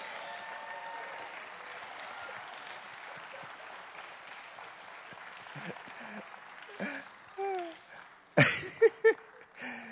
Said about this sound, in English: Thank God there's life in the house. Give him a hand clap.